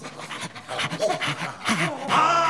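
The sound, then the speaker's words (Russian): Police bloodhounds sniff out a trail, snuffling and panting in quick, breathy bursts, a busy rhythm of sniffing with a few faint whiny tones mixed in, growing louder toward the end. “Впереди вынюхивали след полицейские ищейки.”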